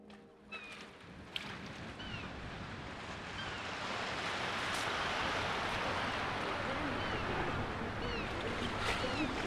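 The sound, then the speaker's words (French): Sea waves wash in a steady, broad rush that builds over the first few seconds and then holds loud, with faint chirping bird calls scattered above. “Deuxième épisode, la mer et les oiseaux.”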